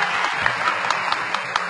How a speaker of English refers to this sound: Where's that clapping?